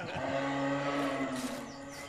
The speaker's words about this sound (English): Sounds like Mr. Mario has gotten up at last. That's not Mario. That's a deer. Sounds like a buck. I hope he's as big as the last one I brought down.